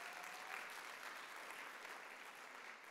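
Audience applause celebrating a retired pastor's 56 years of marriage: a steady, dense wash of many hands clapping, sustained at an even level throughout without a break, with no voices standing out.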